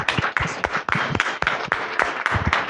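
An audience applauds a speaker at the end of a talk, many hands clapping in a dense, steady patter that stays loud and even for a few seconds, with no voices over it.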